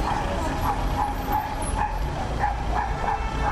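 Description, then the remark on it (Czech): A dog barks repeatedly in short, irregular yaps over a steady low outdoor rumble. “Evo ker se neko čuje.”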